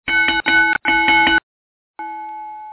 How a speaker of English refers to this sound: And there's the bell, because I digressed, and I should probably not digress.